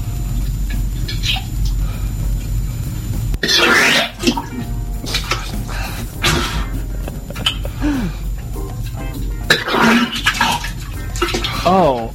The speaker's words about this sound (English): Oh. There's just chunks in there you can hear. You can hear the chunks splashing in the toilet.